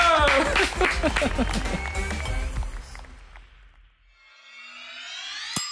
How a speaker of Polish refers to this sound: Dziękujemy, brawa dla was. Brawo, brawa.